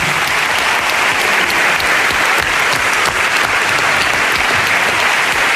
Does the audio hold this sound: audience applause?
yes